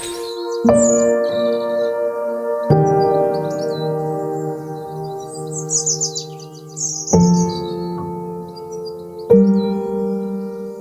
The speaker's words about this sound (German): Wobei bis jetzt sind die Vögel lauter als die Autobahn, aber das wird sich vielleicht gleich ändern.